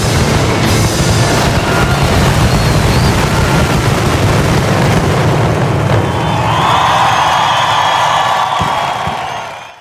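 A dense, continuous barrage of firecracker bursts crackles and booms for several seconds, loud, with a bright hissing wash of explosions that thins out near the end: the final firecracker string (traca final) closing the Festa Major de Barcelona.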